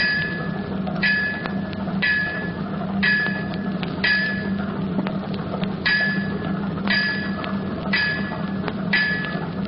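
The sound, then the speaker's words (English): Someone trapped below debris taps out five bells on a metal sewage pipe: a series of sharp metallic taps, each ringing briefly with a bright, hollow tone, spaced about a second apart with a short pause partway through, over a steady low hum. “Tapping out 5 bells on the sewage pipe.”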